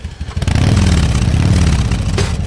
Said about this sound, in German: Ja, so klingt's aktuell wieder auf vielen Motorradstrecken im Land. Aber diesen ganz konkreten Sound, das ist eine Harley, den gibt's vielleicht bald nicht mehr so häufig zu hören.